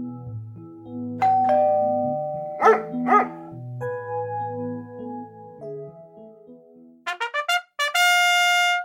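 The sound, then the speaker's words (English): A chiming doorbell and two quick, loud dog barks, set against a light musical backing that ends in a rising run of bright tones. “And hearing dogs alert deaf people to fire alarms, doorbells, and even crying babies.”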